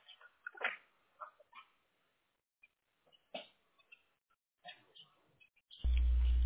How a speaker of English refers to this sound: Two dogs here now. Calling for my attention.